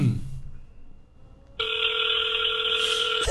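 A phone call rings: after a short near-silent pause, a steady, buzzy electronic ringing tone starts and holds at a constant loudness through the end, with no voices.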